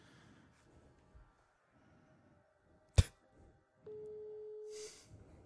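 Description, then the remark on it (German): A sharp click, then a single steady ringing tone of an outgoing phone call to a man, lasting about a second, with no answer, over faint low background noise. “Der geht nicht ran.”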